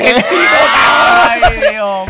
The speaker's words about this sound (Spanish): Nunca había escuchado un grito de gol tan cabrón como este grito de gol en autotune, papá.